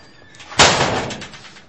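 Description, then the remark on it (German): A single heavy door is slammed shut from the inside by a young man with a sharp, loud bang, followed by a short rattling decay as the sound fades. No one speaks. “Der junge Mann dreht sich um und knallt die Tür von innen wieder zu.”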